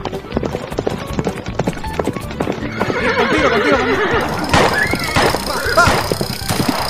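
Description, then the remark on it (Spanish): Rapid, rhythmic hoofbeats of a galloping horse pound, then loud, wavering whinnies and neighs cut in over the continuing hooves. “A ver, vamos a correr a caballo.”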